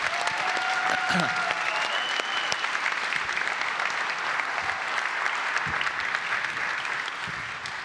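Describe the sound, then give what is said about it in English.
Sustained audience applause for the director of missions who organizes Serve Day, a dense steady wash of many hands clapping at an even loudness for several seconds, with faint voices and a brief whistle-like tone rising through it early on. “She gets a special round of applause because she is the wizard behind all of Serve Day.”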